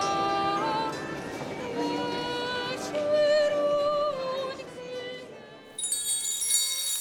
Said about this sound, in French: Les restaurants.